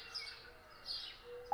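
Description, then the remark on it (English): Quiet, high-pitched songbird chirps and tweets repeat over a soft, steady background hiss, with no voices present, like a faint dawn chorus, played as a daybreak songbirds track on a Jambox speaker with live audio on. “And we will stop the track. Daybreak Songbirds.”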